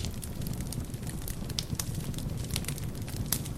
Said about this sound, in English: Fire.